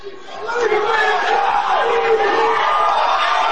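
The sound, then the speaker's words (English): A loud, dense crowd of voices chanting and yelling together, played in reverse so the syllables swell and cut off unnaturally, with sustained wavering pitch throughout; the backwards chant is said to sound like "we love you". “And then we have a reverse on the crowd.”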